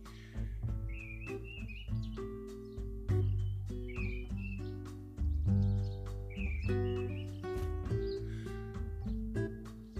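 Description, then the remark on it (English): A bird dive-bombing past in a garden calls several times in quick warbling bursts, over a steady low droning background with occasional sharp knocks. No one speaks. “You heard that, but I just got dive bombed by a bird.”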